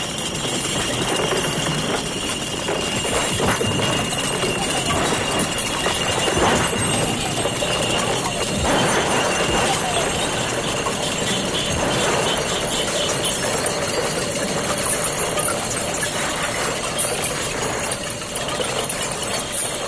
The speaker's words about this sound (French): Denis Dufour, dans ses vocalises, intégrera le bris de verre dans une sorte de lexique de tous les sons du verre. En voici un tutti, comme il le nomme.